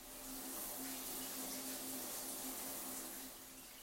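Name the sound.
shower water running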